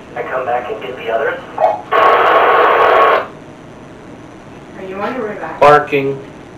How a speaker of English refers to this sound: I heard loud static from over here. Like, specifically.